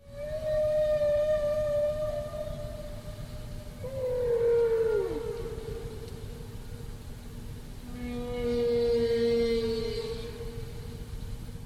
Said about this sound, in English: Now that's one phrase, and the whale repeats its phrase and sort of yodels the second time.